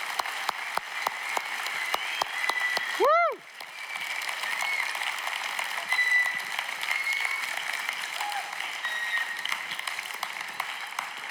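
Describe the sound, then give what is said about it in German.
A crowd claps steadily and densely for about eleven seconds for the background team who set up lights, band and technology, with sharp individual claps standing out early on and a brief swooping whistle rising and falling near the start. “Können wir diesen Leuten im Hintergrund einfach mal einen fetten Applaus geben für das, was sie Gott für Gott leisten?”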